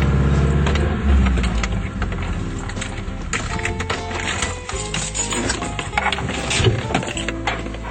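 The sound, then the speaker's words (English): A car being parked, its engine running steadily, a low continuous rumble mixed with rattling and knocking noises as the vehicle slows and settles into a stop. “We're going to park the car here and then we're going to go for a walk up the mountain.”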